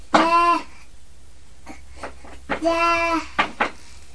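Several short, sharp sneezes burst out in quick succession, alongside two longer, tonal bleat-like animal cries at the start and middle.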